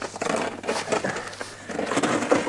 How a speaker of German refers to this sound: Ja, und ganz unregelmäßig geformt. Er glüht noch. Hol eine Metallkiste aus dem Auto, in die wir die Gesteinsproben getan haben. Das Material schirmt die Hitze ab. Ich nehme mit der Schaufel den Meteoriten aus dem Krater.